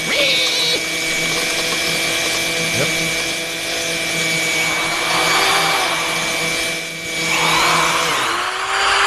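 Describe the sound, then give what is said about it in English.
A meat-processing machine whirs loudly and steadily, its blade briefly snagging and grinding on a bit of bone before the motor settles back into its constant drone. “That was a bit of bone that got caught in the blade.”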